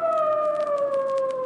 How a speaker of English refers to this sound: Give him the siren. That I will.